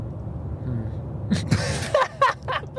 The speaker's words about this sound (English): I love how you can hear the ambient noise of the car. Right. I actually really like that.